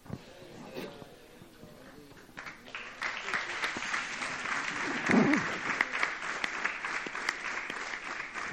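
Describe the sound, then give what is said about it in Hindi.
An audience claps steadily, starting sparse and swelling into dense, sustained applause that carries on at an even level, with a brief low vocal sound rising in the middle. “भैया मुझे तुम्हारी ताली नहीं, हृदय चाहिए, सच्चा हृदय, बस दैट्स इट।”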